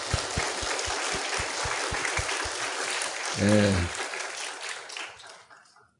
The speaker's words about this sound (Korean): 하나님께 영광의 박수를 한번 돌립시다.